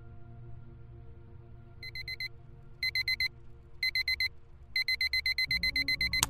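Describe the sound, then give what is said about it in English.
A phone alarm rings from inside a pocket in bursts of rapid electronic beeps, each group growing longer, loud over a low steady hum, ending with a brief shuffling rustle. “Jordan hears the alarm clock from his phone blasting from his pocket.”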